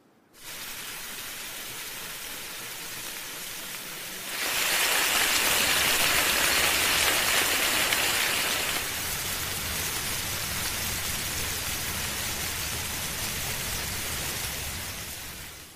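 Bacon frying, used in place of the rain audio on a video of a rainy day: a steady, dense crackle and hiss of sizzling fat that swells louder and brighter for a few seconds midway, then settles back to an even sizzle with no voices.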